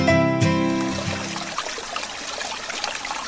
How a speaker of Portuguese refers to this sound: Esse barulhinho de um riacho fluindo, de água corrente, pode significar paz e tranquilidade.